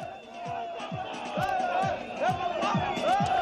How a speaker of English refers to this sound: Campaigning ahead of Mozambique's presidential election this Wednesday ended on Sunday with the ruling Frelimo party drawing a crowd of several thousand supporters in the capital Maputo.